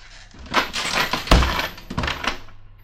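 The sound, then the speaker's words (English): A heavy trap door slams shut with one deep, loud thud, and the slam breaks the dishes in the house across the street: a burst of rattling, clattering crashes that quickly die away. No one speaks. “Darn. I shouldn't have let it slam.”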